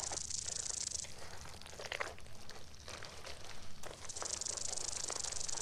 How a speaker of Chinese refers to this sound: 蛇？看来还要注意。